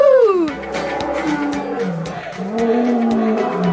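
A loud lion roar, deep throaty growls that slide downward in pitch and rumble on for several seconds with no one talking.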